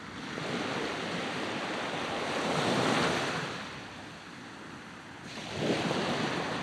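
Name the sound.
sea waves and surf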